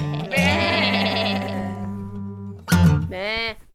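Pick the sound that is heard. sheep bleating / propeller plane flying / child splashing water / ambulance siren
sheep bleating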